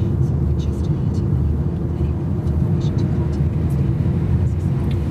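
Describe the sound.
A car's air conditioning, running to cool the car down, blows a steady, loud, low whooshing roar that runs unbroken for the whole stretch, with faint indistinct voice fragments barely surfacing above it.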